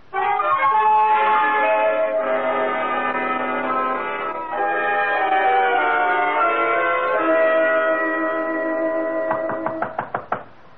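A quick series of about six sharp knocks at a gate comes at the very end, following a long stretch of sustained, ringing musical tones that fade under them.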